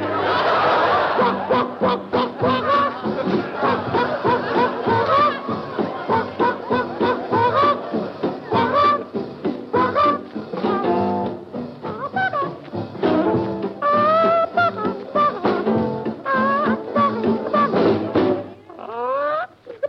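A muffled, lo-fi old recording from a broadcast for the Armed Forces Radio Service of an upbeat rhythmic tune, with a voice making chuckling, clucking, honk-like noises that imitate a bird over the steady, band-limited music throughout.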